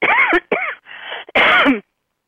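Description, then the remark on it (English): A short run of loud coughs, about three harsh bursts with a quieter rasp between them, ending abruptly with no talking. “That even makes me cough.”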